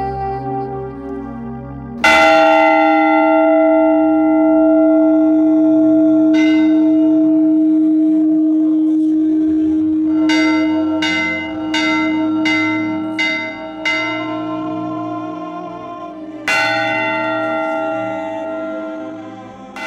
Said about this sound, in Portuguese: São João del Rei sabe, os sinos falam quando dobram, e falam quando silenciam. Quando há enterros e procissões, são 18 pancadas, ou mais, no sino grande.